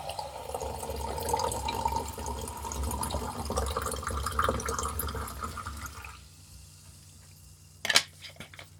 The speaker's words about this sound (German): Ich habe ein Sprudelwasser, das werde ich dir einschenken.